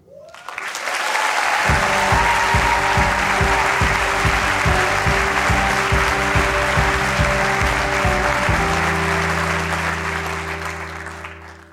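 Loud, steady audience applause and cheering on the Snap Judgment stage for a 15-year-old storyteller, with a pulsing, bass-heavy beat underneath that gives way to sustained low tones near the end before the clapping fades.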